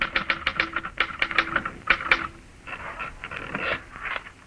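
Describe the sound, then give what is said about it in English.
Rapid, uneven mechanical clacking of keys on a typewriter, fairly loud, in quick bursts that blur into a steadier rattling clatter toward the end. No voices. “You finish the book, get out of bed hurriedly, and sit down at your typewriter.”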